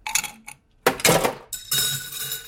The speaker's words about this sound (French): Et là, je rajoute des glaçons.